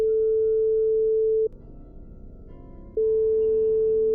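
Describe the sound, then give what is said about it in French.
A telephone ringback tone on the line: a steady, fairly loud single-pitch beep lasting about a second and a half, a pause, then the tone returning, with no one talking. “Je prends mon téléphone et appelle le premier numéro. Moha. Ça sonne.”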